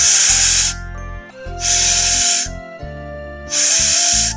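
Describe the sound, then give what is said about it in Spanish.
After a bottle is uncorked, someone inhales from it with all their strength three times in a row: three long, forceful, breathy sniffs, evenly spaced, each lasting about a second, over a low, steady tonal background. “A pesar de saber que no debías hacerlo, fue a buscar la botella, la destapó y aspiró con todas sus fuerzas tres veces seguidas.”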